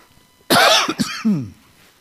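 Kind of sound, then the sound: human body sound, cough and throat clearing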